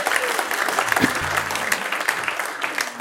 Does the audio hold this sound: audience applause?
yes